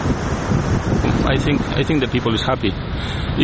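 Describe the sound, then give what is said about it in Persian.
Steady outdoor beach ambience with surfers on surfboards and people walking and exercising on the sand: a continuous rushing wash of wind and surf fills the whole scene, with a person's voice talking faintly over it partway through. “آنها با تخته‌های موج سواری از ساعات آزادی خود لذت می‌برند. تعدادی نیز در ساحل قدم می‌زنند و نرمش می‌کنند.”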